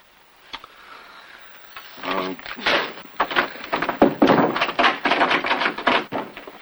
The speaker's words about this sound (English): Jim butts his shoulder and hip against the wooden door.